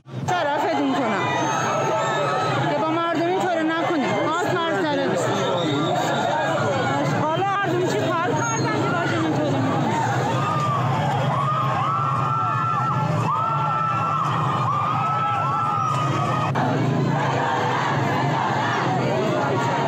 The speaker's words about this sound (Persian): صدای اعتراضات مردمی در اصفهان و مشهد را می شنیدید.